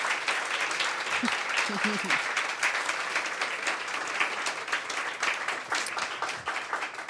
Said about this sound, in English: Can we have a round of applause for our special guest